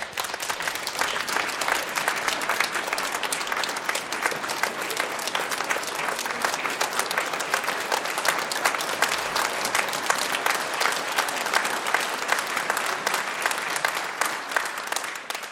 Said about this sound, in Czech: Děkuju za krásné přivítání, tleskali jste hezky, opravdu teda úžasné, jak na Oscara, opravdu teda.